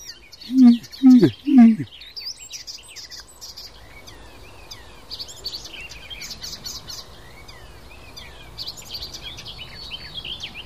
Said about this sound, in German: Ich würde sagen, das war alles so von jedem Vogel ein bisschen eben. Das klang auf wie eine aufliegende Amsel so ein bisschen.